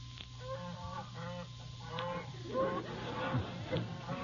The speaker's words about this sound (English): Sounds to me like a wild geese honking. It is a goose. I don't know how wild it is.